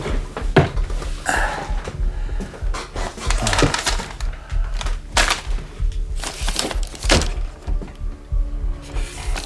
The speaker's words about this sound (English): Close the door, though, when you come in.